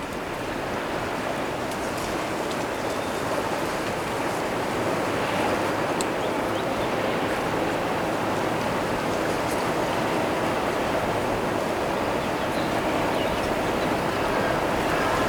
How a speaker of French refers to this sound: La clameur du vent, du végétal et de l'océan.